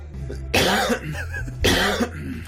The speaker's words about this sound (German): Hinterher versteht man dich kaum. Der Rachen ist wahrscheinlich gereizt. Richtig super. Kommt, weil wir es können. Ja, sinnvoll. Sich komplett einnebeln. Ja, und jetzt geht's mit dem Husten endlich los.